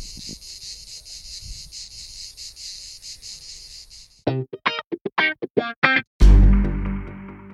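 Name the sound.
cicada chirping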